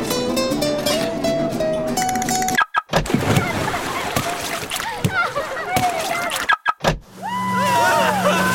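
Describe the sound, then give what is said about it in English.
An Enterprise rental car being unlocked, with sharp clicking and clunking bursts separated by brief silences, set within a busy, layered mix of other sounds and faint voices. “Rent a car with Enterprise and. unlock it.”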